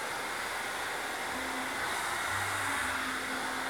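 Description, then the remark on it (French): A hair dryer blows steadily and loudly for several seconds while being used to style hair, a constant airy roar with a faint motor hum underneath and no voices. “On a l'impression qu'il se sert de son sèche-cheveux comme de...”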